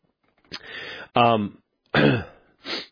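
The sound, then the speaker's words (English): A run of throat clearing and coughing: four short, rough bursts, some voiced and some breathy, separated by brief pauses, with no talking around them. “It's amazing how slowly an hour goes when you're trying to talk slowly and keep from coughing.”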